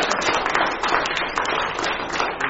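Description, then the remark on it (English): A group of people clapping together in steady applause for the council, a dense, continuous patter of many hands at an even, moderately loud level throughout. “And I think that they need a clap.”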